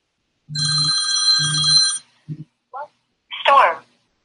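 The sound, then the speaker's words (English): A telephone rings with a bright, buzzy electronic trill in two bursts as a dialer session starts calling leads, followed by a few short tones and a brief snippet of voice from the line. “And we're about to start dialing right now. My phone will ring.”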